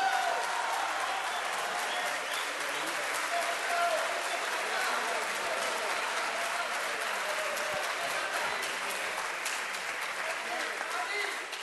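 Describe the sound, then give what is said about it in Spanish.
Sustained applause from a large audience at an awards ceremony, given for a singer receiving an award, a dense steady wash of many hands clapping at even loudness throughout, with faint crowd murmur mixed in. “El aplauso, el reconocimiento para ….”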